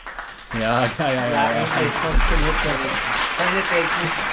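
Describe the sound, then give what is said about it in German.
Recorded audience applause from a live show, captured with a microphone and played back, sounds as a steady wash of clapping for about four seconds, with voices or cheering rising over it throughout. “Also, wenn Sie sich wundern, woher kommt dieser Applaus und ich sage einspielen, wir haben die Sendung vorhin live aufgenommen, den Applaus dann mit einem Mikrofon aufgenommen und spielen ihn immer dann ein, wenn er tatsächlich stattgefunden hat.”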